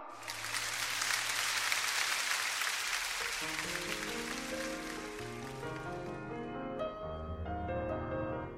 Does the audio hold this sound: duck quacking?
no